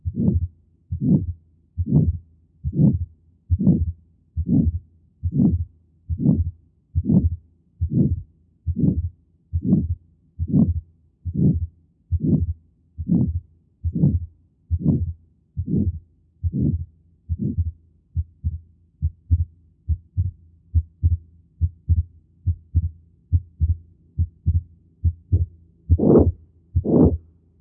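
Heart sounds of pulmonary stenosis at an auscultation point: steady heartbeat with a harsh, low whooshing murmur between beats and a split second sound, repeating about once a second. The beats soften toward the end before two final louder thumps. No talk.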